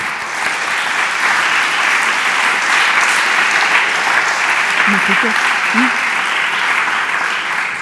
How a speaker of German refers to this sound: Ich glaube, das hat einen Applaus verdient.